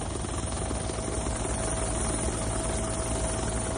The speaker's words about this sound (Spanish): En esta primera fase del dispositivo, el helicóptero del Ejecutivo Autonómico al que estamos escuchando ha hecho una primera búsqueda que no ha dado resultados positivos.